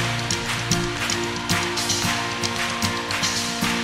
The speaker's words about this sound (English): Everybody clap your hands. Everybody clap your hands now.